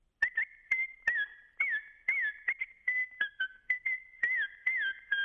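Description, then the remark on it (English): A loud run of sheepdog herding whistle commands, given while the dog drives sheep across a field and signalling go right, go left, stop and pause: a dozen or so short, shrill blasts with quick pitch swoops and flat sustained notes, delivered in brisk succession with brief gaps and no talking. “It really is a very, very high-level Olympic-quality sport, a not atypical set of whistles when the dog is driving the sheep across the field can sound like”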